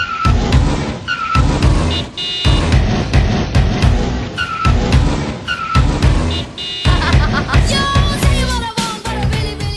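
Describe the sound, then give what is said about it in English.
A loud, driving music remix layered with car tire screeches and blaring horns that recur every couple of seconds in a steady rhythm, with no one talking over it. “We did get the best ever remix of …, though, with car screeches and horns, which was just brilliant.”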